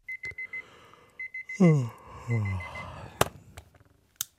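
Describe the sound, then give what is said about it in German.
A digital alarm clock beeps in the morning in rapid bursts of quick electronic tones, clear, then cuts off as a person lets out drowsy groans, followed by a sharp click. “Wecker aus, Licht an, Augen reiben, über die trockenen Mundwinkel wischen, den plattgelegenen Bart kratzen.”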